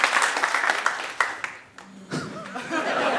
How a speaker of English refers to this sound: Thank you so much for joining us tonight here in London. What an absolute pleasure it is to be back at 229 The Venue. Give me a round of applause if you've ever heard our show Do Go On before.